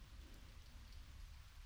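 Steady rain pours down in a dense, even hiss with a deep low rumble underneath, continuous throughout, with no voices.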